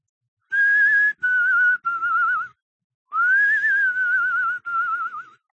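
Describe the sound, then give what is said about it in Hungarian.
A person whistles the opening of "Three Blind Mice": three clear descending notes, a short pause, then the same three notes again, loud and alone with no talking. “Valaki a három vakegér dallamát hütyülte.”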